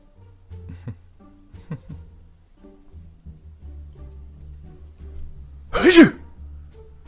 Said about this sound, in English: Gesundheit.